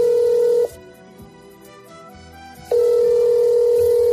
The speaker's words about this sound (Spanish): Si te ha tocado trabajar en un servicio de urgencias estas Navidades, sabes que cada vez que suena el teléfono...